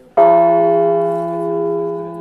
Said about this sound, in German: So klingt Etienne. Eine von 8 Glocken aus der Kathedrale von Notre-Dame, die Bergamo und sein Team über Monate hinweg restauriert haben.